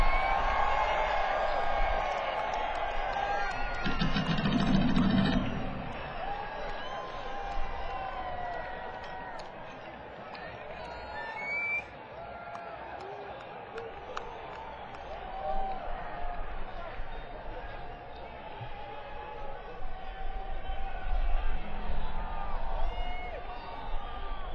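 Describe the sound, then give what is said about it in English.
A rock concert crowd yells and cheers, some people yelling that the band sucks, many voices overlapping in a dense, steady roar that holds for the whole stretch, with scattered louder shouts rising above it. “For those of you that are a bit confused by the people that are yelling … sucks, it's actually a positive thing for some unknown reason.”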